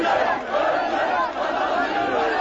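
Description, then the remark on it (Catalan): A large crowd shouts in unison in the street, a dense, continuous roar of many raised voices chanting slogans against Kurdish independentists accused of the previous day's attacks, loud and steady throughout with only a brief dip in the middle. “Són crits contra els kurds independentistes, a qui s'acusa dels atemptats d'ahir, tot i que no n'hi ha proves i ells ho neguen.”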